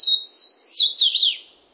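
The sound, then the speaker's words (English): A Swainson's warbler sings from a tangle of vines in the southern U.S.: a quick, clear song of about two seconds, starting with steady whistled notes and ending in a run of slurred, descending phrases, loud with no other sounds. “Nimble notes ring out from a tangle of vines in the southern U.S.”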